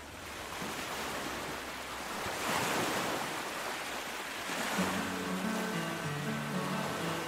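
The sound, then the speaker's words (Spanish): Sea waves rush and break on the shore in a steady, hissing roar that swells and recedes, with soft tonal music creeping in over the surf toward the end. “Les dejamos a la orilla del mar.”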